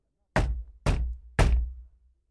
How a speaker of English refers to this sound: The two men reached the house. Poole knocked on the door.